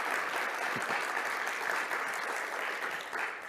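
Steady applause from an audience, many hands clapping in a dense, continuous patter that holds at an even level for a few seconds with no voices on top.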